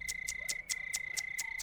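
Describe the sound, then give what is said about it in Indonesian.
A house gecko chirps in a quick, even series of about seven sharp clicking calls, set against a steady thin high-pitched hum in the background. “Lalu mengapa kau bersuara dan menggoyang-goyangkan ekormu seperti itu?”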